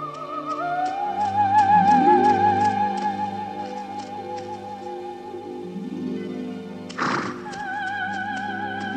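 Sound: horse neighing and hooves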